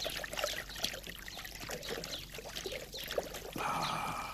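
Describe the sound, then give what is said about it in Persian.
Water splashes and trickles steadily for several seconds, with a fuller, brighter pouring rush near the end as drinking water fills a glass. “بله البته، بفرمایید از این لیوان بنوشید.”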